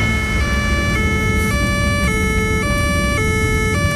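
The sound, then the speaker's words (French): A police car siren blares loudly in a steady two-tone hi-lo pattern, switching pitch about twice a second and holding constant volume throughout, with traffic rumble beneath and no voices. “Attendez, il y a la police.”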